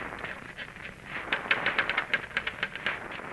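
typing on a typewriter

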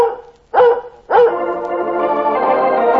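dog barking

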